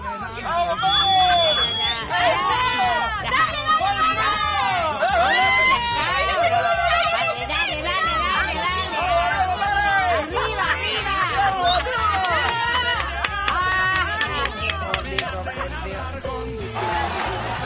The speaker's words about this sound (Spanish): Mucha gente apoyaba con aplausos y vítores a cada uno de los participantes de la competencia del palo encebado. Competencia que consiste en el intento de subir lo más arriba posible por una vara de 5 a 6 metros de alto